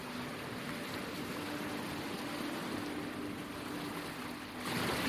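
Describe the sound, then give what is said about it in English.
Ocean water sloshes and laps in a steady, continuous wash, a bit louder near the end, with no voices present, in an open patch of ocean where the water is nearly 15 feet deep. “We reach an open patch of ocean, the water nearly 15 feet deep.”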